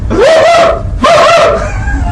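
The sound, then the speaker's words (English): A man's voice imitates a dog while calling his dogs, giving two loud, drawn-out whining yelps, each rising in pitch and then holding, separated by a brief pause. “Uncle, you behave like a bloody dog.”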